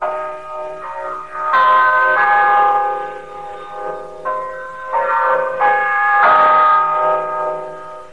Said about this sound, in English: Check your time with the LM chime. It is exactly 12 noon.